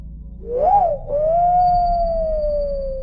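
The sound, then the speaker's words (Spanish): An eerie whistle heard at night rises and dips, then stretches into a long, steady tone that slowly sinks, sounding over a low, dark rumble with no voices. “Por un tiempo funcionó, pero al poco tiempo seguía escuchando ese silbido por las noches.”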